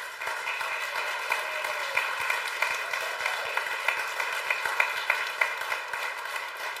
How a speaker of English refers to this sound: We just love watching these kids grow, and they definitely help us as teaching staff to grow, too. I just want to give them a huge round of applause again.